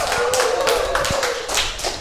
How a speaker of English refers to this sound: So can you make some noise, everybody? Is that it? No, some more. Clap your hands and shout. Come on.